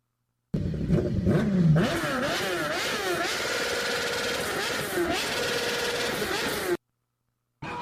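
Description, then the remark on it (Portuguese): A motorcycle exhaust revs loudly for about six seconds, the engine pitch rising and dropping in repeated surges before cutting off abruptly. “DJ, volta aí de novo essa descarga aí, essa descarga.”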